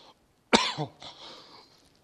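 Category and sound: human body sound, coughing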